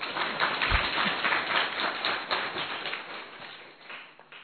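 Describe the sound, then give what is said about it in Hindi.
A crowd at a gathering claps steadily for several seconds in thanks to a speaker, a dense patter of many hands that stays fairly loud before tapering off slightly toward the end; no one speaks over it. “एक हाथ की ताली, ठीक है, जोर से भी ताली बजा सकते हैं।”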